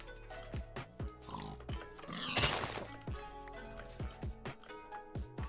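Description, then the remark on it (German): Video game pigs grunt and squeal amid a steady series of short, thudding hits as the player strikes them with a sword, each pig going down in a single hit, with a brief louder noisy burst midway; no one speaks. “Die Schweine sind One-Hit einfach.”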